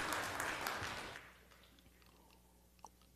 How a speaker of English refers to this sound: You have demonstrated well, my friend. Thank you. Look at that. You get an applause. Wow.